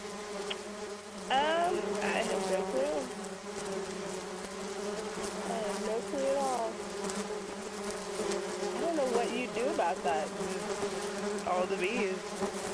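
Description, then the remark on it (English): A dense swarm of honeybees buzzes steadily inside a truck throughout, many overlapping drones with pitches that waver and swoop as individual bees fly past, fairly loud and continuous with no voices. “Oh no, I'll just stop the truck and step out and the bees will stay in the truck.”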